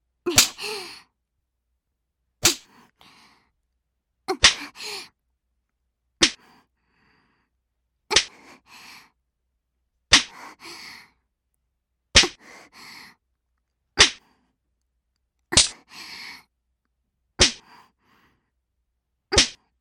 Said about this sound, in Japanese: どう？軽くビンタしただけでもかなり効くでしょ？体の芯までビリビリする？